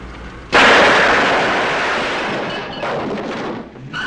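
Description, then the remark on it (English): A sudden, loud burst of heavy machine-gun fire from a gun poking through the rear-door window of a black Citroen erupts after a brief lull and roars on continuously as a dense, rattling wall of noise, easing slightly before a second surge near the end. “The muzzle of a heavy machine gun appears through the window of the rear door.”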